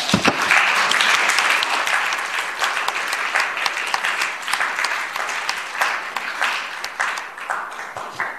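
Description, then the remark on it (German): Sustained audience applause from a sizable crowd welcoming and thanking a panel, dense overlapping claps that stay loud for several seconds before gradually thinning out slightly toward the end. “Also wir haben zunächst mal ein herzliches Willkommen und Dank an dieses illustre Panel auszurichten, und ich möchte Sie bitten, das vielleicht auch mit einem kleinen Applaus zu machen.”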